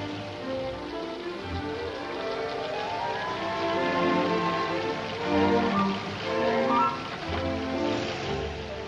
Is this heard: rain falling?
yes